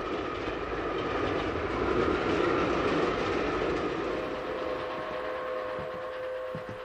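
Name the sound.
train on rails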